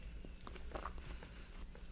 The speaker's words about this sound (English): So this has like a crunchy streusel topping. You can hear him chewing it. Listen.